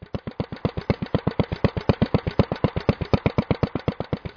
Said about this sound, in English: I have recorded some sounds of working tractors and working gasoline engines from Hudson River farms, or in the hands of Hudson River people, basically collectors, maybe not farmers anymore today.